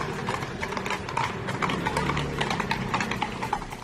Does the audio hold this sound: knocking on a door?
no